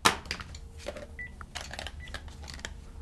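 The dog Rescue retrieves a phone with his teeth, fumbling, dropping and knocking it about with clatters, while a few short keypad tones beep as he presses numbers between the scrapes and bumps.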